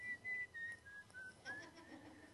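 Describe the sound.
Someone idly whistles while daydreaming, a short, wandering string of soft notes, gliding up and down without a clear tune. The whistling is fairly quiet, with no talking.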